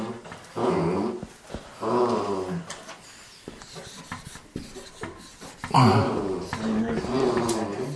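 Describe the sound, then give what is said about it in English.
A dog, Kirby, snoring in three long, rough, throaty rumbles separated by quieter breathing pauses, the last stretch loudest and most sustained. “I thought that was Kirby snoring.”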